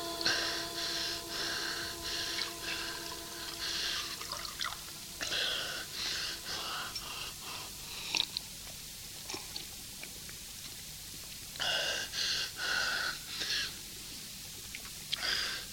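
Eager gulping and sipping of water by a person in a hospital, with sharp gasping breaths between swallows, a repeated rhythm of drinking and panting over a quiet background hum.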